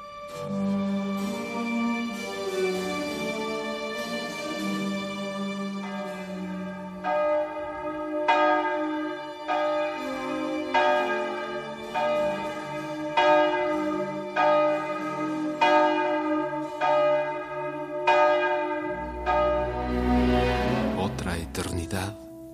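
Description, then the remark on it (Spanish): A church bell strikes twelve, slow, evenly spaced resonant chimes with long ringing overtones, each stroke fading into the next, ending with a louder jangle of bells. “Y sonaron las 12.”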